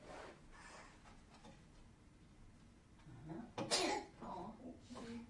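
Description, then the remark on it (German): A single sharp sneeze bursts out, followed by a few softer, murmured vocal sounds against a quiet background. “Hatschi?”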